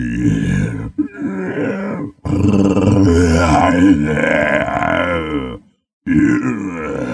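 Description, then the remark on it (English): Voice actor Frank Welker voices a long, rumbling growl-like roar in several sustained bursts with short breaks, loud, gravelly and strained, recreating an animal roar for a movie. “I'm surprised they didn't use any real roars in the movie. Cool. They're all recreated.”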